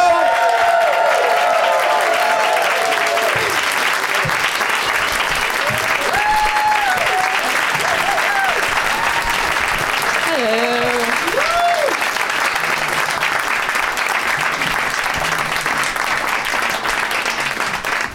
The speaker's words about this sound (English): It's a long clapping audience. That was cool. Yeah, they're long clappers.